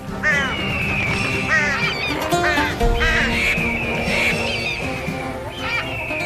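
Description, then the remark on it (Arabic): A noisy flock of waterfowl, ducks and geese, quacking and honking over one another in a dense, continuous chorus, loud throughout. “انتظري، لماذا تتجمع الطيور في هذه الناحية؟”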